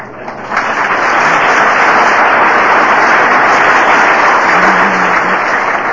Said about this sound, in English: Thank you. I'll tell him you clap for him. He'll like that.